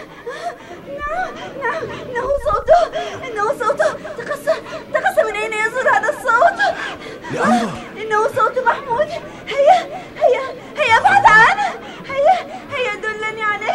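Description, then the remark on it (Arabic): A child cries in wavering, high-pitched wails that rise and break repeatedly, over a bustle of background chatter and voices. “إن صوت بكاء الأطفال متشابه.”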